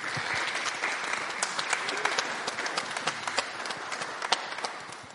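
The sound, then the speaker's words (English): A crowd applauds steadily for several seconds, a dense patter of many hands clapping at once, with a few sharper individual claps standing out above the wash. “I think we should give them a round of applause, actually.”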